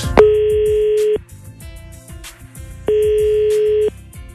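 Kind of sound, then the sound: signal or alarm, telephone dialing and ringing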